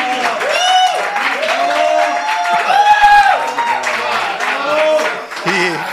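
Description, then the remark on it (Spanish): Steady applause for a young woman, requested from the show's production, mixed with excited cheering voices, holds at an even, fairly loud level for the full six seconds. “Oiga, producción, la aplaudan, la chica, elegancia.”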